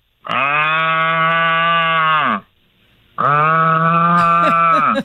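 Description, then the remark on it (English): Two long, loud moos from a cow, each held for about two seconds with a brief pause between them; the second call turns slightly rough near its end. No one speaks. “I was on vacation when the cows that got out.”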